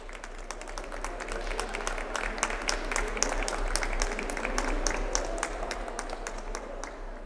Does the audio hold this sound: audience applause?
yes